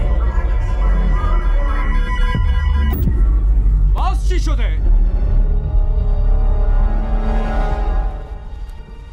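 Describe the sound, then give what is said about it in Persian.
A power generator runs with a loud, steady low drone, its engine humming continuously throughout, briefly joined midway by a higher, sweeping whine before settling back. “مسخره است، الان جنراتور به کار.”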